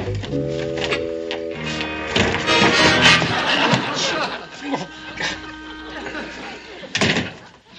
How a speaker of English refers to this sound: like a door slam.